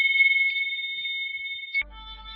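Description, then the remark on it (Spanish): A bright hand bell rings with a steady, shimmering, clear tone for nearly two seconds, then cuts off abruptly into a low, different background sound. “que verán qué mensaje más guapo van a tener detrás de tocar yo la campana.”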